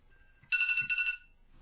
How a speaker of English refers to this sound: My phone went off. How about that?